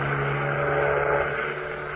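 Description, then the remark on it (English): A ship's engine drones steadily in fog, a constant low throbbing hum with a thin hiss above it, holding an even loudness throughout with no voices; it is another ship getting closer. “That's no echo we're hearing. That's another ship. It does seem to be getting closer.”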